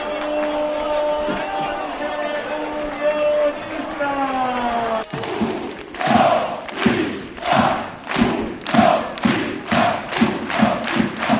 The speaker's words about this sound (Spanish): Ese grito que escuchábamos al principio, hay que decir que no era el de un aficionado, que podría serlo perfectamente.